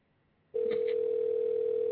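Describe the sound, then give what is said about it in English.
A steady, unbroken telephone dial tone switches on abruptly after a half-second of near silence as a call is dialed out on a live show, and holds at an even, loud level to the end, with no voices. “I'm dialing him out right now.”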